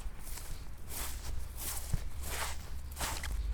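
Footsteps of two people, Little Red Cap and her grandmother, arriving behind the huntsman in the Little Red Cap tale: a steady series of soft, scuffing steps about every second over a low background rumble, with no voices.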